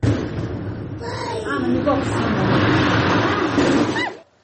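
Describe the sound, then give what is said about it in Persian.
A quarry blast in the mine at Takabi village, Varzob, carried out by the company Sino Parallel, which digs and collects stone: a deep, rolling roar, loud and sustained before cutting off abruptly, while people talk over the rumble. “این صدای ترکیش در کانی همشفتی دهه تکابی نویه ورزوب است.”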